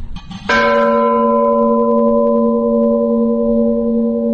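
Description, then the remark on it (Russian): The large bell in a church bell tower is struck once plainly, as a first-timer would strike it, loud, with a harsh, rattling, slightly jangling attack before its deep tone rings on steadily, sustaining for several seconds with no voices. “Если в него ударить просто, как человек впервые поднимется, ударит, скорее всего, у него получится такой дребезжащий звук.”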